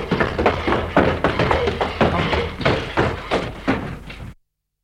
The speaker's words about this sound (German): Nehmt eure Streitätze und schlagt die Tür ein!